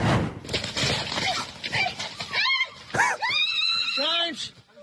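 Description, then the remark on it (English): Several terrified people in a tent on the mid-north coast shriek and scream in panic as two fighting kangaroos crash into it, high rising and falling wails overlapping one another amid a chaotic jumble of shouting voices and scuffling noise, loud throughout. “What about two kangaroos captured punching on in an all-out war before crashing into a tent filled with terrified people on the mid-north coast?”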